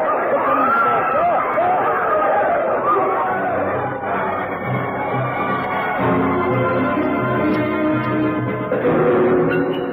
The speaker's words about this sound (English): All was utter confusion. No one knew what was happening. There was a pistol shot and screams. The crowd panicked.